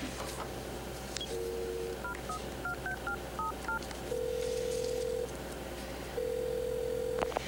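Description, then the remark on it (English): A quick run of about ten telephone keypad beeps is dialed, followed by two long, steady ringback tones, all clear with no one speaking. “Then she straightens up, composes herself, and grabs the phone.”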